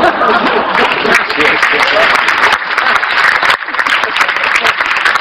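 A crowd applauds loudly and steadily for about five seconds, a dense wash of many hands clapping with a brief dip near the middle, with faint chuckles mixed in.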